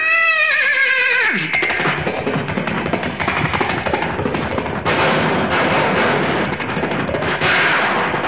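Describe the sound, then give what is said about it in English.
A person vocally imitates a horse through a microphone out of the front end of a car at 7 o'clock in the morning: a loud whinny rises and falls at the start, then a dense, noisy clatter of galloping hooves continues steadily to the end, with no talking. “So I picked up the microphone, gave them the sound of a horse braying and galloping out of the front end of the car at 7 o'clock in the morning.”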